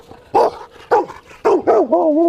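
A female working farm dog named Spook barks in a quick series of four or five sharp, loud barks, the last drawn out into a wavering whine-like yelp.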